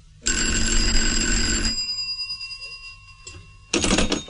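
An old-fashioned telephone bell rings loudly, one long metallic burst that trails off into a ringing hum, then a second ring begins just as the sound ends.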